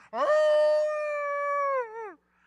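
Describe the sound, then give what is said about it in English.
A person imitates the howl of Molly, a dog left sitting in the middle of a field: a single sustained, tonal wail that rises, holds steady for about two seconds, then bends downward and fades. Fairly loud, with no other sounds. “She sat down and howled.”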